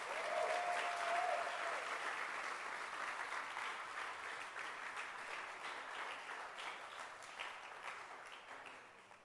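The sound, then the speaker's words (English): An audience applauds a book with dense, steady hand clapping that holds strong for most of the stretch, then gradually thins and softens toward the end. A brief whistle-like tone rises near the start. “And clap your hands for this beautiful book.”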